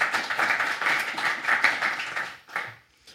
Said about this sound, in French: Bravo, on applaudit ça aussi, merci, s'il vous plaît. Merci.